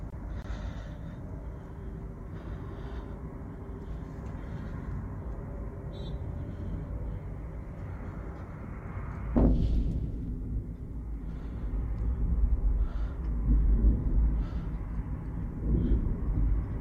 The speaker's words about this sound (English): So this explosion appears to be around the airport. All right, so that's the current situation. We have another angle on similar explosions.